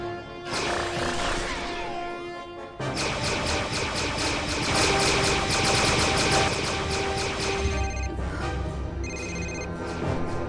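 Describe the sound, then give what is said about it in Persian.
A telephone rings in rapid electronic bursts, tangled up with loud rumbling, rattling machine noise that fills the whole stretch. No one speaks. “تلفن تو آوردی؟”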